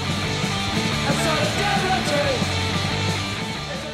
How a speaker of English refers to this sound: That's the song … by the band ….